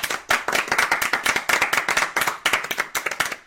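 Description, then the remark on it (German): A group claps together in a steady, fast rhythm, about four or five sharp, loud claps per second, continuing for a few seconds with no one speaking. “jetzt machen wir ein Klatschen.”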